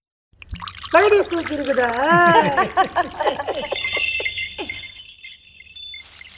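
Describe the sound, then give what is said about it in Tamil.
A drink is poured from a bottle into a glass: fairly loud gurgling glugs that bubble and warble for a few seconds, then a thin, high ringing tone as the glass fills. “இன்னும் பாட்டில் சத்தம் கேட்குது, வந்துடுச்சு நம்பாலு. அண்ணே அண்ணே கிளாஸ் அண்ணே, எனக்கு கொஞ்சம் அண்ணே. சரி ஊத்துங்க.”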